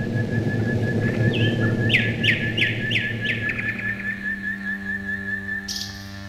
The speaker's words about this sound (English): that night, an ominous bass note accompanied the Nightingale